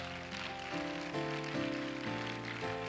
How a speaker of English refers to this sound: And let's once again worship the Lord by clapping our hands to him. Thank you, Jesus.